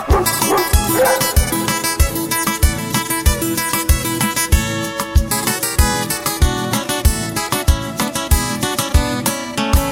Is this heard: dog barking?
yes